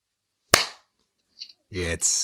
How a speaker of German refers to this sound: Darf ich nochmal klatschen kurz?